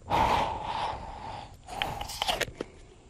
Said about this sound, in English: He's putting it under his arm. He's breathing into the water.